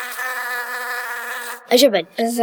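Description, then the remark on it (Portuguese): A steady bee buzz hums without a break for about a second and a half, then stops as a voice briefly talks. “As abelhas têm um ferrão, mas se elas picarem, morrem por causa que sai o ferrão e mais alguns órgãos dela.”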